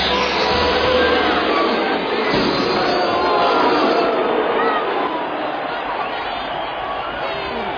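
A loud, dense roar from a boxing arena crowd, sustained and unbroken, with a harsh edge of jeering, booing and shouting mixed into the din as a fighter makes his way through the crowd toward the ring.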